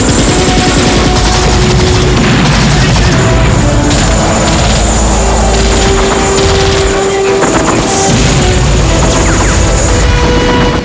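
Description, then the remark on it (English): Dense rifle gunfire from Mujahideen fighters firing back at an attack helicopter swooping low over a village crackles nonstop amid heavy, rumbling explosions and erupting fireballs, forming a loud, chaotic battle din with a steady low roar underneath and no voices. “Mujahideen fighters return fire with their rifles. Fireballs erupt as the chopper swoops low.”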